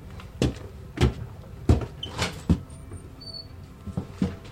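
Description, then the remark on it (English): The side door of a damaged house is pushed open, its hinges giving short squeaks amid a series of knocks, thumps and scraping clatter, with no one speaking. “Miller walks up the side door and steps into the house.”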